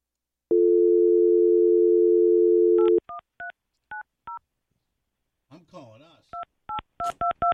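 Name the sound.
telephone number being dialed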